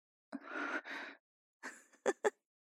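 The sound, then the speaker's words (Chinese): A woman's heavy breathing, growing heavier: two long, breathy exhales followed by a shorter breath and two quick, sharp gasps. No one speaks. “那为什么阿姨你的喘息声越来越重了呢？”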